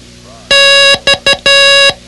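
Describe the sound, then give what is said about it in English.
Morse code for the letter X: a steady mid-pitched electronic tone sounding long, short, short, long. The beeps are loud and clean, with no voices. “Study the X sound-alike card and repeat cross at the door each time it sounded.”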